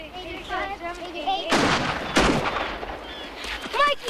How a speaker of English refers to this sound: that sounded like gunshots. Not the big ones that you hear in war movies, but gunshots. Real ones.